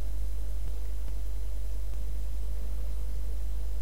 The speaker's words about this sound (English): He is having a shower.